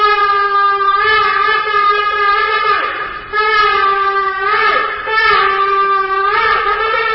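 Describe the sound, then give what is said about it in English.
A shofar, a ram's horn, is blown at the St. Regis Hotel in Abu Dhabi to signal the start of talks between an Israeli delegation and UAE negotiators: loud, sustained brassy blasts, a long held note broken by two brief dips, with slight pitch wavers and a rich buzzing tone. No voices are heard. “The sound of the shofar, a ram's horn, at the St. Regis Hotel in Abu Dhabi was the signal for the beginning for the talks as the Israeli delegation met with UAE negotiators.”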